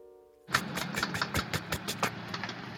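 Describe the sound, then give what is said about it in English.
A woman turns the ignition key and a car engine cranks and catches abruptly, then runs in a rough, uneven idle with irregular loud pulses, with no voices. “It's rough, fitful, loud, but the engine roars to life.”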